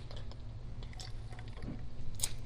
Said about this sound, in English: I didn't take a water break when I got up here, so I'm going to take one right now.